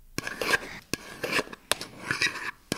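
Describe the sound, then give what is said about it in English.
A mother smashes potatoes in a pot for Christmas dinner: sharp metallic knocks every second or so, with rough, rasping scrapes between them as the masher works through. No one speaks. “When my mom makes smashed potatoes, it sounds like...”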